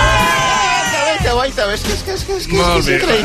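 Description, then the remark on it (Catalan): A crowd at the humour programme La competència cheers and whoops loudly over steady applause, many voices overlapping in rising and falling shouts that keep going for a few seconds without a break. “Espereu que estàs aplaudint encara.”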